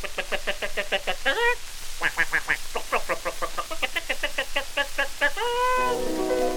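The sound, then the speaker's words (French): A voice imitates farmyard birds, a hen's clucking and a duck's quacking, in two fast runs of short repeated calls, ending on a longer drawn-out nasal call, as part of a French-language song about animals bought at the market. “Et ma poule fait.”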